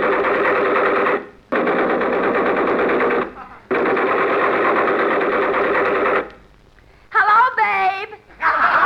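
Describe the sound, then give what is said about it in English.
Pneumatic air hammers digging up a street pound in three long, loud bursts of rapid, rattling hammering, each stopping abruptly, followed by a short, wavering, high tonal sound. “Look, they're digging up the streets with those air hammers.”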